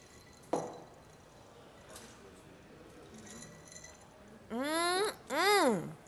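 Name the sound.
glasses clinking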